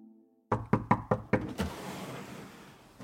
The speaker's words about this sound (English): A police officer knocked at the door.